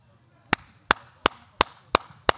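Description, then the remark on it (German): Six evenly spaced hollow-handed claps imitating the way Christoph Diekmann claps, in a steady rhythm, each a sharp, dull cupped pop with a lower, rounder tone than a flat-palm clap, heard alone without talking. “Stimmt, so, das ist so hohlhändig.”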